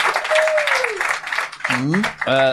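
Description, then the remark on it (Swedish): Audience applause from those who know this year's challenge: a dense, steady patter of many hands for a second or so, with a gliding whoop over it, then voices break in as the clapping thins out. “Ni kan väl känna till den här, applådera ni som känner till årets utmaning.”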